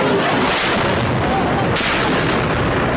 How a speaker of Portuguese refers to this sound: Explosões em igrejas.